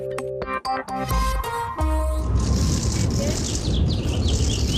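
Birds chirp high and steady over a busy outdoor murmur, with quick camera shutter clicks and flashes crackling early on before the open-air ambience settles in, in the White House gardens in Washington during the family photo of ASEAN representatives received by Joe Biden.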